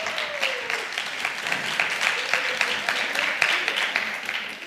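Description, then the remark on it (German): An audience claps steadily for several seconds after being asked who comes from Erlangen, a dense patter of many hands at moderate loudness, with a few voices murmuring faintly underneath. “Wer kommt denn mal so aus, wer kommt aus Erlangen direkt? Einmal klatschen.”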